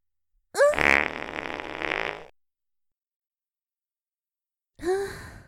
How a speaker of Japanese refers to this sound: いかがですか？私のおなら。これもまた女性の不浄なる部分。あなた様の愛すべきとびきりの悪臭なのですよ。私のおなら、非常に匂いますでしょう。